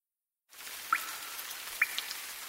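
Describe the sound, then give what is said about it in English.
Steady rain hisses after a brief silence, with two distinct water drips plinking clearly over it about a second apart, fairly loud. “Drip, drip, drip. It's the rain.”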